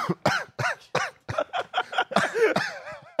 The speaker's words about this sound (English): Coughs right into the mic as the show ends. Well, I didn't want to cough towards you as I'm shaking your hand.